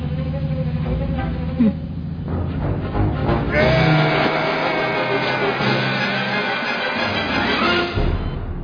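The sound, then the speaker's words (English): A car engine runs loudly for several seconds, its droning tone rising and shifting as if revving, with a dense rumbling roar underneath. “Dear God, I beg of you, stop the car.”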